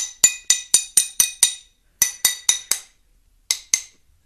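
Bright glassy taps on cut, scored glass, made to break it, ring out in quick series: six evenly spaced knocks, a pause, four more, then two after another gap, each with a short ringing decay. No one speaks.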